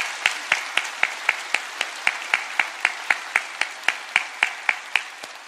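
A large worship audience in Bundang and Suji claps together in encouragement, a steady, even rhythm of roughly four claps per second over a dense wash of scattered applause, sustained loudly throughout with no talking.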